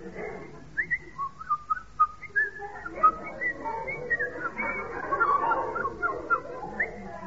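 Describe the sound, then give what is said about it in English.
A man whistles an imitation of thrush song: short, bright phrases and trills repeated in quick bursts, clear, with a faint rustling background and no talking. “That was a thrush sitting on a nettle.”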